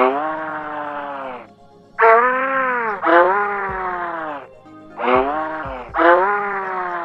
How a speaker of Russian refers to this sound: Среди них, между прочим, тоже есть говорящие. Точнее, звучащие. Жаба-рыба хрипло ворчит. Или издает звуки, напоминающие тихие гудки пароходов.